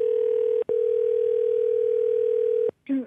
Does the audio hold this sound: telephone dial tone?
yes